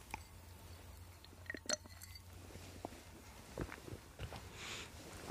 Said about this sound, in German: Ich trinke nochmal einen Schluck, damit ich nicht so viel schlucken muss.